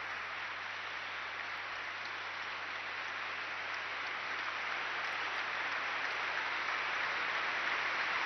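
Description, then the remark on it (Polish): Steady, sustained applause from a large crowd of young people gathered in Charles's Lutheran Cathedral during Pope Francis's meeting with youth, a dense wash of clapping that holds evenly and swells slightly toward the end, with no voices over it. “I na potwierdzenie tych słów oklaski młodzieży zebranej w kościele w katedrze luterańskiej Karola.”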